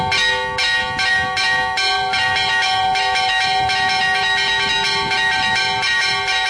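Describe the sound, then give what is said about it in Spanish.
A lively festive peal of church bells rings continuously, several bells struck in quick, overlapping succession with rich ringing tones that sustain and blend, loud, with no voices. “Ese es el toque de fiesta, que es un poco distinto del de la procesión.”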